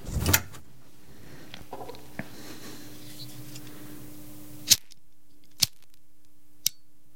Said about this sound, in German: Feuerzeug klicken. Flamme.